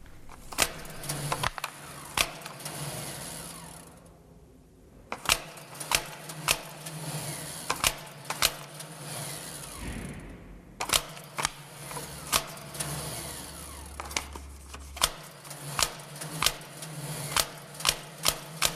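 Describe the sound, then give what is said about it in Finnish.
A time clock punching cards, a series of sharp mechanical clacks and thumps at uneven intervals over a steady low machine hum, with a couple of brief pauses between bursts. “tuossa olisi tarjolla kellokortin leimasimen ääni”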